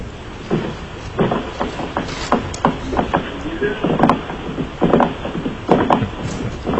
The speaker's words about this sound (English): So if you can hear us, you might want to drop the phone and redial, because all we're getting is the sound of wind.